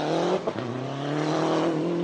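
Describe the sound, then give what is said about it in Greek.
A Lancia Delta rally car engine revs loudly, its tone briefly dropping then climbing back into a sustained, rising growl, with no voices present. “Τι να πει κανείς για αυτό το αυτοκίνητο.”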